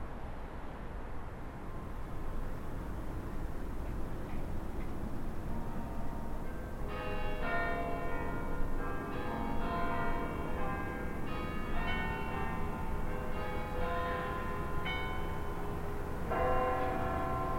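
The bells of five churches, laid out in a large hexagon across the city, ring out together over steady outdoor city rumble, heard from the Polyterrasse, their overlapping tones starting suddenly partway through and layering into a dense peal spread across the surroundings.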